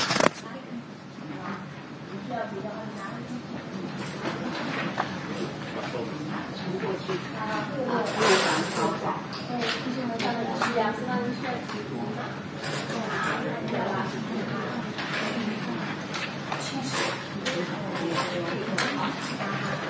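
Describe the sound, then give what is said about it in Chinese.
Steady rustling and crinkling of paper worksheets with scripture passages being handed out to everyone at a Bible study on Genesis, with soft shuffling and handling sounds throughout and a low murmur of people in the background. “把一张的工作纸派给大家。”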